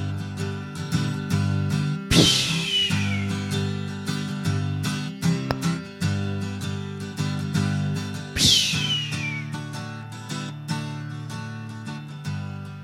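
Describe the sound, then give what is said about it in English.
A voice imitates a hawk's call twice while performing a poem about a hawk, each a loud, high, descending screech, over a steady backdrop of sustained low musical tones. “I'm supposed to sound like a hawk.”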